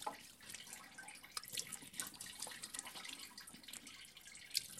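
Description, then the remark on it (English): Water runs steadily at a sink, with splashes and drips as a woman brushes her teeth and cleans her face, a continuous wet hiss broken by small irregular spatters. No one speaks. “She uses the water to brush her teeth and clean her face.”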